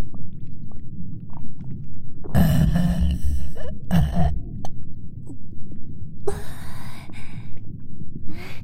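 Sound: burp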